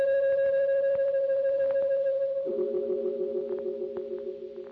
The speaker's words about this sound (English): And there was the sound of a deep-toned bell, clanging thunderously once and echoing across the empty glade.